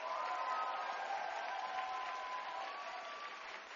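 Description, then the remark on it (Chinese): A church audience applauds and cheers for the church's ushers, a dense, steady wash of clapping mixed with a few cheering voices, holding for about four seconds before easing slightly at the end. “哎，我们的招待都很棒，给他们一个欢呼。”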